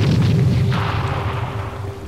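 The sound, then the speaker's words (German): A ship's cannon fires with a heavy, deep boom, followed by a low rolling rumble that slowly fades over about two seconds. No voices are heard. “Geschützmeister, Ziel aufnehmen und klar zum Gefecht!”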